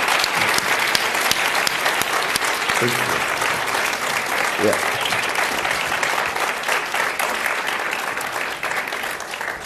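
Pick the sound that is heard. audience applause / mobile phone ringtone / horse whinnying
audience applause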